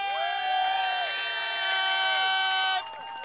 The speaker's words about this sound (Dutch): Nog een keer grote applaus voor …!